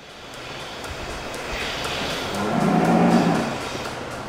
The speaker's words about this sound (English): At the Iowa State Fair, you can see where milk really comes from, the cows.